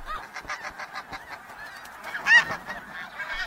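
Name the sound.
snow geese honking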